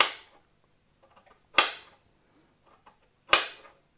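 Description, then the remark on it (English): A knife chopping a fairly big carrot on a board: three sharp, crisp thwacks, spaced unevenly about a second and a half apart, each with a short bright ring-off. Nobody speaks. “I might pause this in a minute while I do the other two carrots, just so you're not just listening to me chopping.”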